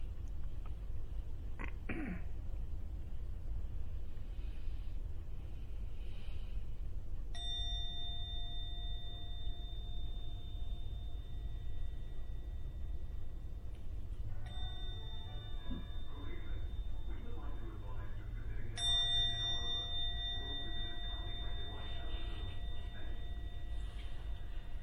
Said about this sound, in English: Ringing the gong 3 times. At the end of the 3rd ringing of the gong, open your eyes to come out from the meditation.